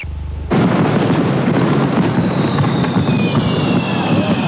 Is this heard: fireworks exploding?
yes